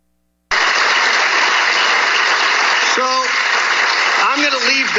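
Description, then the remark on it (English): Dense, steady applause from an audience, started by one person loudly clapping before others joined in, begins abruptly and continues without pause, with a couple of brief voices rising above the clapping near the end. “only reason they applauded right there is that one person in the crowd, you can hear it, one person loudly started a clap. So others joined in.”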